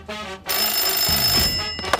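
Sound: telephone ringing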